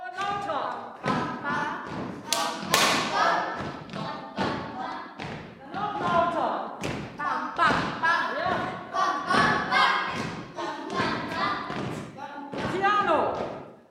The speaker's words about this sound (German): In der Tutti-Probe kämpft die Cellogruppe gerade mit einer komplizierten Stelle. Der Rhythmus wird erst einmal geklatscht und gesungen.